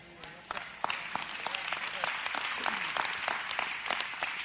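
Scattered audience applause, a steady patter of many hands clapping with a few sharper, louder claps standing out over a low murmur of crowd noise.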